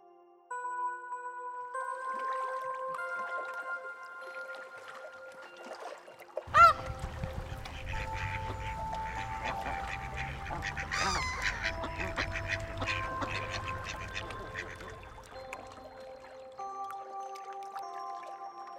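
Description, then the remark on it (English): A flurry of duck quacks on a lake in Victoria on the opening weekend of duck hunting season rises over a rumbling outdoor background, beginning after a sharp knock and fading near the end, with soft sustained musical tones playing throughout. “On the opening weekend of duck hunting season, a group of recreational shooters and a coalition of people opposed to native bird shooting converge on a lake in Victoria.”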